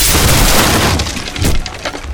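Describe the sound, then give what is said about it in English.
The latch of a shop's locked back door bursts through its frame as the door is forced open, with a loud, harsh crash, followed by a second of crackling, splintering bits that fade unevenly. No one speaks. “At the sound of the latch bursting through the frame, a man was emerging from one of the patient rooms”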